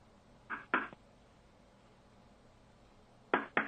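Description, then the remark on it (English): Someone knocks on a door from inside, asking to be let out, in two short pairs: a double rap, a pause of over two seconds, then another double rap, each knock sharp and fairly loud against near silence, with no voices. “Please, we're knocking nicely.”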